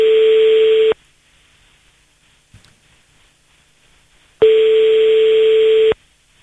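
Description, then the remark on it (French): A landline ringback tone sounds twice while calling the landline of an Ibis hotel opposite the airport, each steady buzzing tone lasting about a second and a half, separated by a long silent gap, with no one picking up. “Nous appelons sur le fixe de cet hôtel.”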